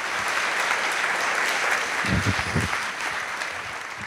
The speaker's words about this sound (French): Merci d'applaudir